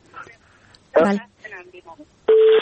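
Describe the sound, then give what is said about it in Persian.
Telephone line tones ring out as a listener's call connects to the program: a short harmonic burst, then a steady, loud mid-pitched beep near the end, with faint speech-like sounds in between. “بازم یک تماس تلفنی داریم.”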